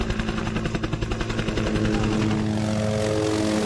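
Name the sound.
helicopter flying overhead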